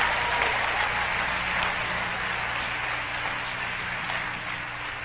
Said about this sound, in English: Clap your hands one time by faith.